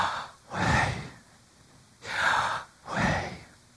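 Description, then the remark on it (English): A person breathes audibly in and out, three slow airy breaths, each a soft rushing swell with quiet gaps between, voicing the Old Testament divine name Yahweh as the sound of breathing, with no words. “It was supposed to be like the sound of breathing.”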